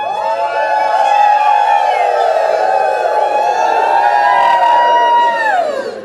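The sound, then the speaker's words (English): A large audience screams and cheers while people do a wave that follows a camera, one sustained, high-pitched roar lasting about six seconds, steady and loud throughout before tapering slightly at the end. “But you all can continue to scream while these people do it, okay?”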